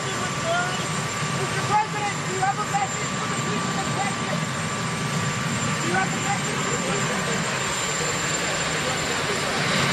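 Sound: helicopter engine running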